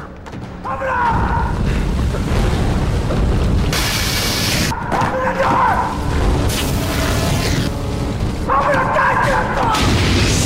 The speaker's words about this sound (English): A huge explosion blows the door and Jake back.